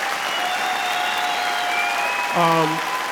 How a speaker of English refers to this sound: Give a big round of applause